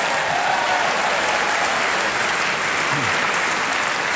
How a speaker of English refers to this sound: Clement Croy justifiably got a very strong round of applause